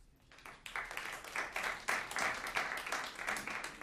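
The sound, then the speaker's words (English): A crowd breaks into applause, audience members clapping if they think the world is a better place than it was 20 years ago: many hands in a dense, steady patter that swells quickly after a quiet start and holds at a moderate level throughout. “ma'am, why did you applaud?”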